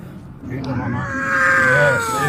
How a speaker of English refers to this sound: Baby crying, meaning she's breathing again.